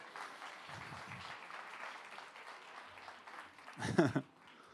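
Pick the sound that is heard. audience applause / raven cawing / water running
audience applause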